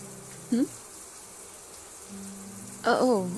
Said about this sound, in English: Why I wanted to join you? I mean, you know I love it when we shower together.